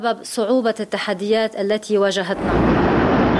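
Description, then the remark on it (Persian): A voice speaks briefly, then the huge explosion of a warehouse holding 2,750 tonnes of ammonium nitrate in the port of Beirut cuts in: a sudden loud, roaring blast that swells into a sustained, rumbling, overwhelming wash of noise. “آغاز وضعیت کنونی انفجار بزرگ انبار حاوی 2750 تن نیترات آمونیوم در بندر بیروت بود.”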